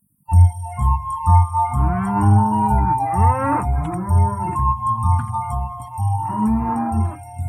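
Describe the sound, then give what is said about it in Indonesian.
A cow being herded on a grassy pasture moos over and over, long low drawn-out calls rising and falling in pitch, loud, with a steady background hum and no talking. “sapimu melenguh terus.”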